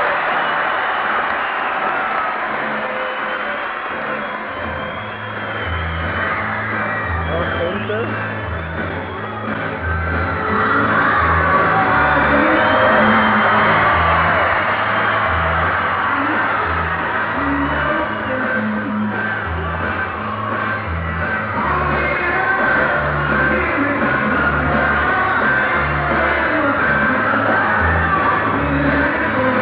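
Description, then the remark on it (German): A concert crowd screams nonstop, a dense wall of shrieking fans drowning out a band playing its second song underneath, in the Krugerhalle on 25 June 1966, recorded with a small smuggled recorder and a cheap microphone. The roar swells louder partway through and stays intense, with a muffled, lo-fi quality. “setzte das Geschrei der Fans ein und hörte nicht mehr auf.”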